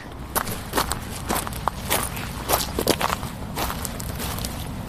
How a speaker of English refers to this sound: Walk over some seaweed and stones. Yeah. Onto the beach.